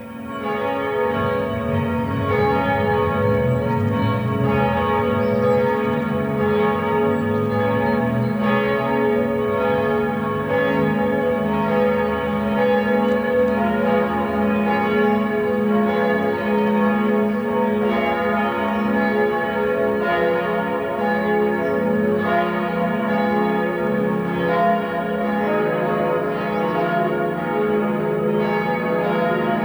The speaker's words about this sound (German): das sind die Glocken der katholischen Pfarrkirche St. Johannes in Ottersweier.